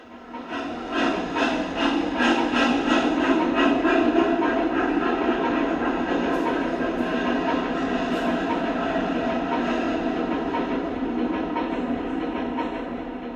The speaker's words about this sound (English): The doors of the train shut and it pulled away, leaving Yaz and Barry standing on the platform alone.